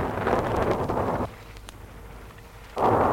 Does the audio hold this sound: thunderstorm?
yes